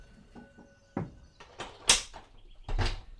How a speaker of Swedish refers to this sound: Ellie öppnar bakdörren och går ut. Osman hinner inte säga något mer förrän dörren slår igen.